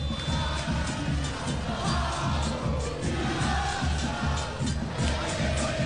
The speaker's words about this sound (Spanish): Canta el pueblo del Lobo.